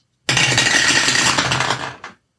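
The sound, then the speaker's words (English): A loud, continuous clatter of two dice tumbling down a dice tower during a tabletop game, rattling densely for about two seconds before settling with a last few clicks. Prominent, with no talking. “It is the end of the day of the loud ass dice tower.”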